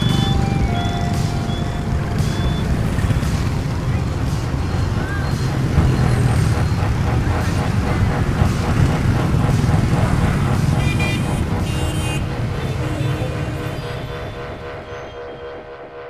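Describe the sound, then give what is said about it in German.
A car's engine rumbles steadily as it rolls slowly forward out through a main gate, with faint traffic noise around it. The sound fades away toward the end. “Als der Wagen durch das Haupttor hinausrollt, stehen die Wachmänner stramm und salutieren.”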